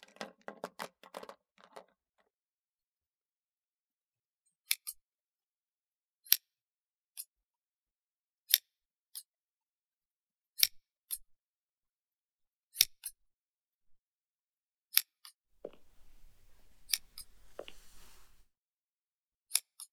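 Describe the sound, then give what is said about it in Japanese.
Crisp metallic scissor snips, a dozen or so sharp clicks spaced irregularly a second or two apart, clear, with a brief rustling flurry at the start and soft handling noise near the end. “いえ、こっちのハサミも捨てがたいですね。”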